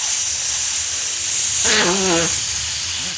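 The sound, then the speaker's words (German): Air hisses steadily as a balloon is blown up in an attempt to make it burst, with a brief wavering, squeaky whine partway through before the steady rush continues. No one speaks. “Oh, jetzt ist er kurz davor. Mach mal weiter.”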